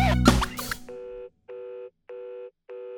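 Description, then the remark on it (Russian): A short burst of loud, noisy sound gives way to telephone ringback beeps: four evenly spaced, steady electronic tones of equal length and mid pitch, separated by brief silences. “Снова гудки, самый грустный звук сейчас это они.”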